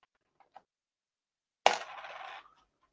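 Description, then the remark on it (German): Two faint clicks as a coin is flicked, then a sharp metallic clink as it lands and rattles briefly on a hard surface before settling into silence. “Oder ganz klassisch hier die Münze werfen?”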